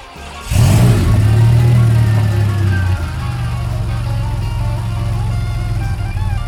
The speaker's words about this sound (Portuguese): Mas aqui na região centro-oeste, só existe um e está em Brasília. E nós fomos visitar essa máquina. Dá uma ouvida no motor do DeLorean.